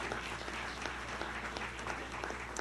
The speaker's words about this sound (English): The worship team is a standalone miracle. Clap for them right now. They are.